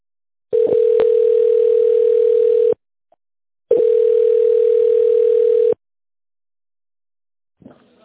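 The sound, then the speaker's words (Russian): A steady mid-pitched telephone line tone sounds while on hold waiting for an operator after calling the company Irvin, in two long, even bursts of about two seconds each, split by a short silence, followed by a brief faint rustle at the end. “Если вы знаете внутренний номер абонента, пожалуйста, наберите его в тоновом режиме или дождитесь ответа оператора. Пожалуйста, оставайтесь на линии.”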